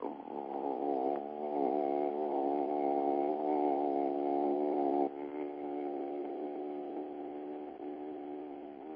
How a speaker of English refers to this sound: And then what's really cool is to tone that note.